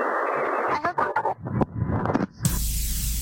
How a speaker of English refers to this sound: Sounds like he's got the blow dryer going near the phone there. He's got something.